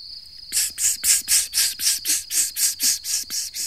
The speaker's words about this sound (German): Ha, die Grille. Eine Grille.